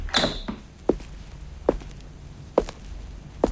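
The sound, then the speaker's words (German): A door creaks open with a short mechanical squeak, followed by four slow, evenly spaced footsteps as someone comes in through it. No one speaks. “Oh, die Inka, sie kam durch die Tür ein.”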